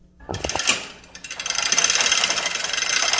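A chain hoist being pulled in the warehouse of Hammer and Weekon Hardware Store in downtown Petersburg, Southeast Alaska, to offload freight from a container van: a couple of metallic clanks, then a steady, rapid ratcheting clatter of chain links that keeps going with a bright, rattling texture. No voices.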